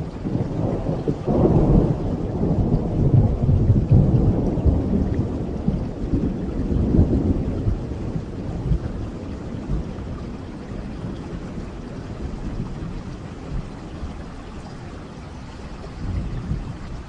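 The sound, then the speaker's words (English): Steady rain pours down with a dense, continuous hiss, joined by deep rolling rumbles of thunder that swell early on and fade gradually toward the end. No voices are heard. “Two favorites are light rain and flowing rain.”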